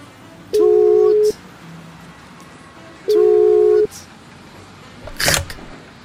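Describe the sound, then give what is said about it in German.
A phone line rings out twice, each steady electronic ringback tone lasting under a second with a pause between, then a sharp click as if the call is picked up. “Tut! Tut! Tut! Normalerweise Tut. Haben sie einen Anrufbeantworter. Ich schau mal, ob Tut. Der rangeht.”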